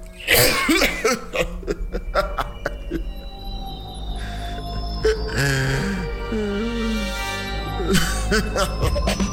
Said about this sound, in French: Le contre-amiral riait à gorge déployée, luttant contre une quinte de toux qui lui enrayait la voix.